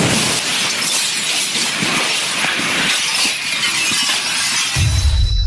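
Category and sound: sound effect, window glass shattering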